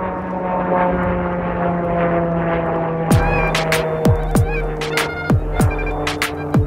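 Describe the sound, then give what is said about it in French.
A steady, droning airplane engine hums overhead throughout, fairly loud, as it passes right next to the Charles de Gaulle airports, while a series of sharp, irregular clacks breaks in over it during the second half. “Et là, il y a un avion qui passe parce qu'on est juste à côté des aéroports Charles de Gaulle.”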